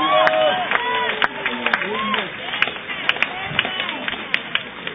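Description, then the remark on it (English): A church audience claps for the Lord in a dense, steady wash of applause, with scattered sharper claps and many voices calling out and cheering over it throughout. “Give the Lord a clap of.”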